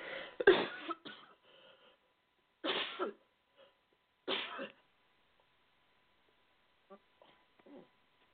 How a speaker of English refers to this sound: I don't know why that just all of a sudden come over me, that cough.